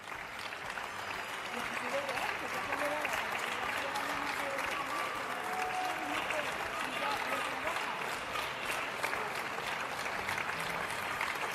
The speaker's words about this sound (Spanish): Y estos otros aplausos solidarios desde la Avenida de los Poblados